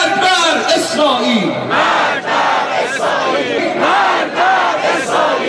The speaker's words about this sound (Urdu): Tehran کا فلسطین square امریکہ مردہ باد اور اسرائیل مردہ باد کے نعروں سے گونج اٹھا.